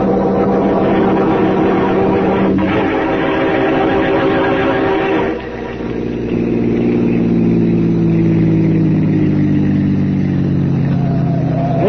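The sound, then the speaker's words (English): A car engine drives steadily and loudly on the way to an old house, droning throughout, with a brief dip midway like a gear change before the motor pulls and revs up again. No one speaks. “I got my car outside so we can get there ahead of Parker.”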